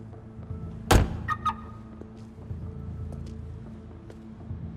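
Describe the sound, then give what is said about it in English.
A single heavy car-door thunk rings out over a low, steady engine hum as a bearded man gets out of a black car pulled into the back of a building, followed by two quick faint clicks, then the idling rumble continues alone. “The bearded man gets out of the car.”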